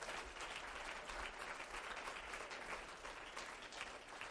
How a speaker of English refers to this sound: Well, why don't we stand together? This is baby dedication. Go ahead and clap your hands unto God and bless his name.